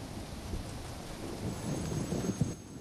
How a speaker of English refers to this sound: The storm's coming in. Yep. It's night. Staring avidly through the window at the lashing rain and lightning. I love a lightning storm.